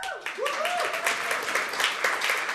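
A crowd breaks into sustained applause, dense overlapping claps filling the room at steady loudness, with a brief whoop or cheer rising over the clapping near the start.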